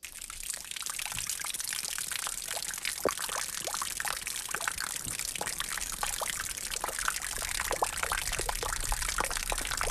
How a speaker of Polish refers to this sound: Ale poza tym, że podsłuchujemy, jak to rynna nam tutaj pięknie gra i jak deszcz z rynny kapie w starej leśniczówce